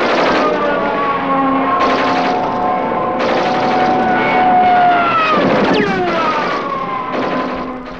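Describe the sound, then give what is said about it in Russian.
A loud propeller aircraft roars overhead, flying low in wartime autumn 1942, its engine pitch sliding down as it passes, firing rapid bursts of machine-gun fire that crackle through the drone; no voices. “Самолет дал на бреющем полете пулеметную очередь и снова скрылся, оставив за собой длинную, медленно и косо сползающую к земле голубоватую полосу дыма.”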